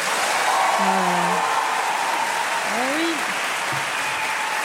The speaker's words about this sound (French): Alors, par applaudissement, qui est contre? On a 4 sénateurs dans la salle. C'est fou. Et là, par applaudissement, qui est pour?